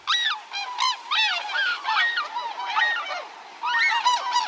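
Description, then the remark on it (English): A flock of tundra swans calls in flight overhead on a winter day, overlapping high, reedy hoots and honks rising and falling continuously, loud, with no talking. “As a flight of tundra swans passes overhead on a winter day, their voices swell in a kind of wild music.”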